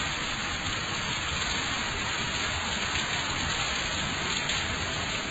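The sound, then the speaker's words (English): Steady rain pours onto hardened soil, running off rather than soaking in, in a dense, continuous patter, an even hiss of countless drops with no pauses and no voices. “The soil had turned hard, so when raindrops fell, trillions of them, the tendency was to run off, not soak in.”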